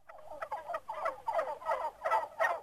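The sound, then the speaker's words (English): A turkey gobbles loudly, a rapid, throaty warbling rattle that pulses in about six quick bursts across a couple of seconds, with no talking. “Yes, it's Turkey Day, and this Thanksgiving, Californians will be eating turkeys that are more plump and more expensive.”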